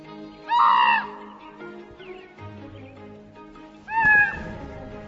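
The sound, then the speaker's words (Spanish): A crow near a carcass gives two loud, harsh cawing calls about three seconds apart, each a raspy drawn-out cry, with quieter rustling and a low rumble between them. “El cuervo emite un irritante ruido y podría alertar a los depredadores rivales hacia el cadáver.”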